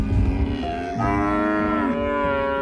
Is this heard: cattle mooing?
yes